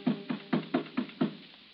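Six quick, evenly spaced knocks on a door, each a dull, hollow thud of moderate loudness, sounding alone with no voices, the last one landing just after the midpoint before silence.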